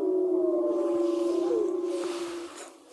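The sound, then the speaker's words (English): Wolves howling together, several long, sustained wails overlapping and gliding slightly in pitch, loud and continuous throughout with no talking; the pack howls for about two minutes. “They howl for about 2 minutes.”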